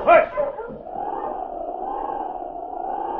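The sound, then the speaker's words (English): A sled dog pulling a stolen sled along a trail lets out a sharp, loud bark, then settles into a long, steady howl that carries on at an even pitch to the end, clear. “Then they continued along the trail with the stolen sled and dog.”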